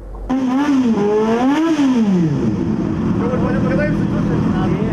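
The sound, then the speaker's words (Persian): A motorcycle engine revs loudly, its pitch climbing and dipping in a couple of throttle surges before settling into a steady, rumbling idle; a group of young Tajiks plan a 10,000 km motorcycle journey on United States roads, from Florida on the east coast to California on the west coast. “گروهی از جوانان توجیک نیا دارند که با موتورسیکل در راههای ایالات متحده آمریکا 10000 کیلومتر را طی نمایند.”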